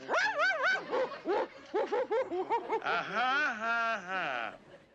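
A voice imitates a big dog, giving a run of loud, yelping barks followed by a long wavering howl that fades out.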